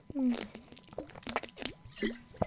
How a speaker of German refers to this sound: So, ich trinke jetzt einen Schluck. Das war eine viel zu lange Erklärung dafür, dass ich einen Schluck Wasser trinken wollte.